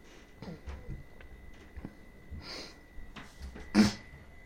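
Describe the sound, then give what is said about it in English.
Someone clears their throat and snorts while recording, a few short rough bursts separated by quiet breathing. The last one is sharpest and loudest. No one speaks. “I don't understand why my throat always has problems when I record.”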